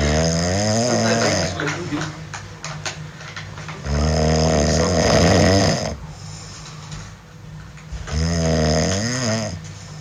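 Loud human snoring from a compilation of snores: three long, rumbling snores with raspy inhaled drones, repeating about every four seconds with brief quieter breaths between them.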